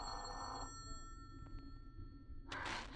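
A telephone bell rings in a burst, falls silent for a couple of seconds beneath a steady low hum, then begins ringing again, fairly loud.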